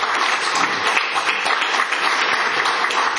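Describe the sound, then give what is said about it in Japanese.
Sustained audience applause for a kōdan storyteller at an association event, a dense, steady wash of many hands clapping at an even loudness throughout, with no voices rising above it. “もう一度盛大な拍手をお願いします。”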